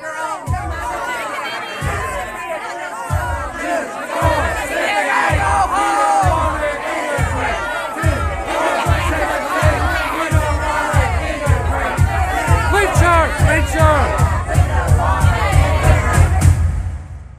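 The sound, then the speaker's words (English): A large crowd screams and yells like an angry mob behind a person waiting at a bus stop, many voices overlapping loudly throughout, with a steady rhythmic thumping or chanting beat underneath that grows slightly more intense toward the end. “In the meantime, people were screaming behind me what I would have described as a crowd before. To my ear, sounded like a mob.”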